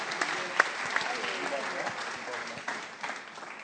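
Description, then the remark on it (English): Hands clap steadily in a fast, continuous patter of applause, moderately loud, with a murmur of voices underneath; a woman applauding the Lord, able to clap without pain after a prayer of deliverance. “grazie al Signore riesco ad applaudire e non sentire male.”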